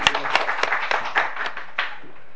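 An audience applauds after the township head's report, with steady, dense clapping from many hands, a few sharper claps standing out, sustained throughout without anyone speaking.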